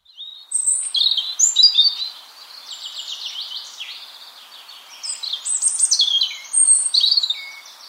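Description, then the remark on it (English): A European robin sings a long, varied song of high, thin trills and warbling phrases, clear, rising and falling in intensity with brief pauses, no voices present. “The beautiful song of the European robin.”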